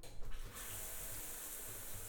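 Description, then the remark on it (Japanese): Running water from a shower, used to rinse someone's body, streams steadily with a broad, hissing spray after a brief splashy start, continuous throughout with no voices. “シャワーでお体を流してあげるね。”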